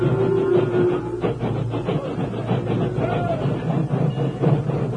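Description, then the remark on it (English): A steam locomotive slowly backs into position at sunset to a line of railroad cars loaded with cattle, its steady rhythmic chuffing and clanking rolling along, with a brief hissing tone near the start. “The doors were closed, and then, at sunset, an engine backed into position.”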